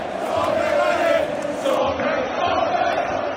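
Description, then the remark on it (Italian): Inter fans in the stadium curva roar and chant in acclaim of goalkeeper Sommer after the match against Barça, a loud, steady wall of voices that stays continuous without a break throughout. “Sommer, come stiamo ancora sentendo, osannato sotto la curva dai tifosi interisti”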